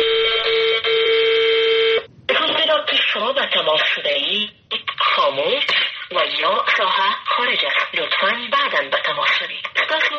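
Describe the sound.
A steady electronic phone tone sounds for about two seconds, then a woman's recorded voice speaks clearly in a telephone-filtered, automated message announcing that the phone is switched off, on calls to officials of the Ashraf Ghani government in Afghanistan, continuing to the end.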